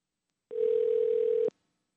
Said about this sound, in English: All right, we have to get out of this crazy dial tone first, though.